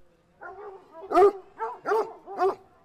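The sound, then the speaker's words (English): Hounds barking in a quick run of about five drawn-out, tonal calls, the middle ones loudest, with no voices in between. “During this era, Beryl McEwan's father was the Croom Kennel huntsman, and she grew up surrounded by hounds.”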